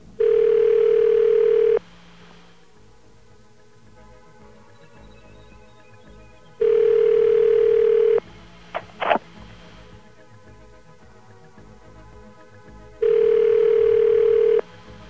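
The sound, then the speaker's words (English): A telephone ringback tone on a call to a toll station in the United States sounds three times, each steady burst lasting about two seconds with long quiet gaps between, fairly loud and clear, with a couple of faint clicks on the line; no one answers. “And that's it ringing now.”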